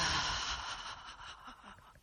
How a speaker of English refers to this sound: So, just take a few deep breaths with me, breathing in through your nose and out through your mouth. Just releasing what you don't need. Breathe in and release.